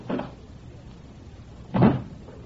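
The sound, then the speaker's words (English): A door bumps and then shuts with a firmer, louder thud about a second and a half later. Two short, low knocks with quiet in between. “Oh, be a good fellow, and don't slam the door as you go out.”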